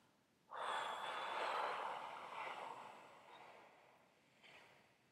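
A long, slow exhalation during a breathing exercise, an airy rush of breath that lasts a few seconds and gradually fades, followed by a brief, softer puff of air. No talking.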